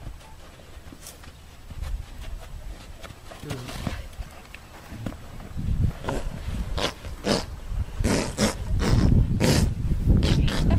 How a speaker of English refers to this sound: Give me some audio. Oh, this is a horse farting.